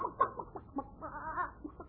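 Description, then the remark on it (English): A hen clucks in a quick, uneven series of short, throaty bursts, with one longer warbling cluck in the middle, as it is being fed corn; no voices. “We got to feed the chicken.”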